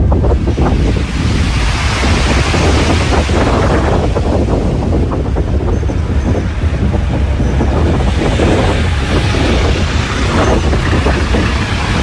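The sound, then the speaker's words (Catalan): On a windy morning on the seafront promenade at S'Agaró on the Costa Brava, Catalonia, waves surge and crash continuously against the shore while strong wind buffets the microphone, creating a loud, steady roar with rumbling gusts throughout. “Mira, això és un matí ventós al passeig marítim de S'Agaró.”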